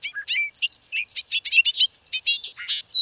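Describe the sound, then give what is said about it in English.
A bobolink sings a fast, bubbly, tumbling song of high metallic notes in a grassland, running continuously for a few seconds, clear with no other sounds. “In North America, birds such as the bobolink seek out grasslands to raise their young, deftly hiding their nests within the dense vegetation.”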